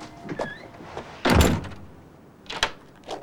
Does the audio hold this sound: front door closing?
yes